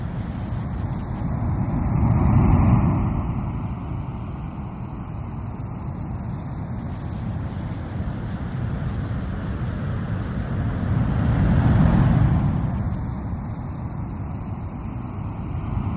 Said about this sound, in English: Now, as you listen to the sound of ocean surf, move your body into a more relaxed position.